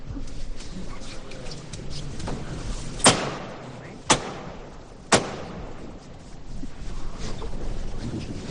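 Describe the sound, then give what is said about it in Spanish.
Three sharp, loud ceremonial hammer knocks by the brotherhood's head brother, with the mayor beside him, signalling the float at Santa Cruz la Real parish, Granada, on Holy Wednesday, evenly spaced about a second apart, rising above a steady background murmur of a crowd. “Suena el martillo”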